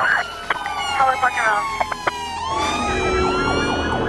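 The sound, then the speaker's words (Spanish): An ambulance siren wails loudly and continuously, its pitch sweeping up and down over a low rumble of traffic. “Ya ha salido una ambulancia para allá.”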